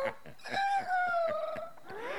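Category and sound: bird, rooster crowing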